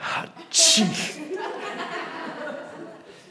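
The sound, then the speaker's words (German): A quick breath in, then one sharp, loud sneeze, followed by faint murmuring voices and a soft chuckle in the background. “muss niesen.”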